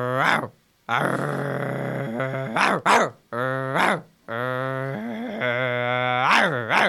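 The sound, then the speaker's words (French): A voice imitates a dog named Rex scaring a witch, with long, rumbling growls broken by several short, sharp barks, loud, with brief pauses between the growling stretches. “Rex, il va faire peur à la sorcière.”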